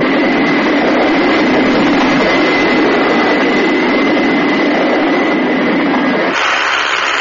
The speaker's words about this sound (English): They are soon ready for takeoff, and the sleek red craft thunders into space towards its rendezvous with John Tracy aboard the orbiting communication satellite, Thunderbird 5.